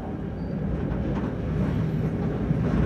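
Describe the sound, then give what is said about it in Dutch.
A steady, loud rumble of a train rolling along the tracks from Chișinău, the capital of Moldova, through the suburbs toward Bolbocha, with a dense low-frequency roar and faint rhythmic clatter continuing throughout, no voices. “De trein leidt ons van Chișinău, de hoofdstad, door de buitenwijken richting Bolbocha.”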